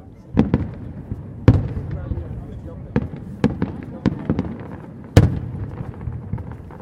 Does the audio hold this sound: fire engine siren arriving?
no